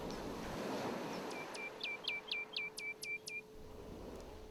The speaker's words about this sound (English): With your peripheral vision, you see the golden sand that surrounds you and the waves crashing on the shore.